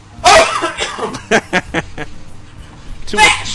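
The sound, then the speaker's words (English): A man coughs: a harsh, loud burst, then a run of short choppy hacks, and another rough cough at the end. “Hold on, I want to hear him cough.”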